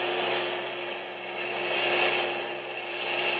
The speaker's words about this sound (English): A few minutes later, she heard a low, throbbing roar, and around a bend in the road, the first heavy trucks of a long German motor convoy roared into view.